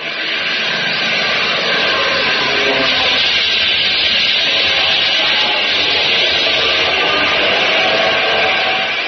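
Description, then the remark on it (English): Engines of Japanese Zero fighter planes approaching from the west drone in a loud, steady, unbroken roar that stays at a constant level throughout, with no voices heard. “No American engine sounds that way. Those are zeros.”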